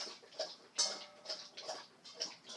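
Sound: dog lapping water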